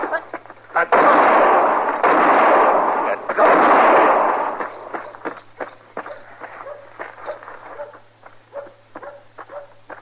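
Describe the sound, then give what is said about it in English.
Three heavy, booming gunshot blasts ring out in quick succession in a street shootout, followed by a scattered run of sharper, quieter cracks and clatters that gradually thin out. “You wanted to get him out in the street with a gun in his hand.”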